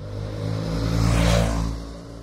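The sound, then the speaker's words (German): Mopeds rev and whine on a busy street in Lyon, France, the buzzing rising to a peak and easing off over a steady low traffic rumble. “Mofas auf einer vielbefahrenen Straße in Lyon.”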